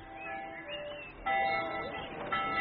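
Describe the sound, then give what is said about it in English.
Village bells ring in a steady, overlapping peal of bright, sustained tones, growing louder partway through, with a faint murmur of voices underneath. “Listen to the bells. It's like a great festival.”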